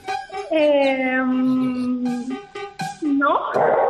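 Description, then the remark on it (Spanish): A dog named Chai lets out a long, sustained howl, then after a short break gives a rising, strained whine of protest, loud. “De mixtas, ahí le vemos protestar.”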